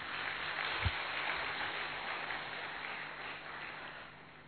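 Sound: audience applause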